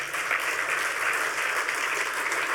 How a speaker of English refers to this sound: Neighborliness abounds, and we need a round of applause for that.